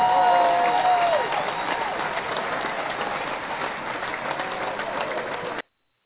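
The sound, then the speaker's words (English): An audience applauds in a steady, dense patter for about five and a half seconds, with a short whistle-like tone gliding down near the start, before the clapping cuts off abruptly. It is a round of applause during GQ Palace's Spiritual Sunday show. “But we'll definitely give him a round of applause.”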